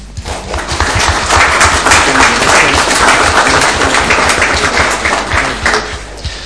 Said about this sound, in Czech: Takže já myslím, že my velcí zastupitelé můžeme poděkovat aspoň tím, že dětským zastupitelům asi zatleskáme, že jo?